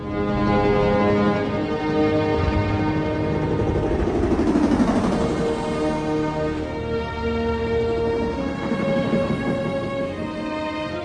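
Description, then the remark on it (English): Military helicopters thunder overhead above Manhattan in a steady, loud mechanical roar with a layered droning hum that swells and shifts in pitch midway through, with no voices. “A posse of military helicopters flies over Manhattan.”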